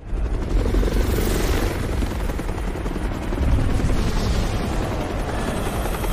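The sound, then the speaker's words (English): A helicopter hovers overhead above a highway full of abandoned cars, shining a spotlight down, its rotor producing a loud, steady low-frequency thrum and rushing wash that persists without a break throughout. “The helicopter's light tracks them as they dart around cars.”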